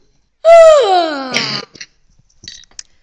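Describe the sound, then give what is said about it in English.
A big, drawn-out yawn from someone in an upstairs room, loud, with a voiced tone sliding downward into a breathy exhale, followed by a few soft mouth and breath sounds. “Eventually, he heard a huge yawn.”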